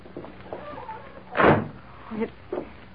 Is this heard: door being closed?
yes